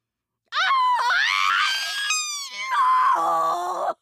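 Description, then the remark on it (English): An unearthly, drawn-out scream from a being inside a grandmother's body as it disappears, loud, its harsh pitch climbing, breaking and wavering for about three and a half seconds before cutting off abruptly, with no other sounds around it. “The being inside Gran's body emits an unearthly scream and disappears, leaving her corpse vacant on the ground.”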